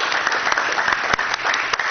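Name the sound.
audience applause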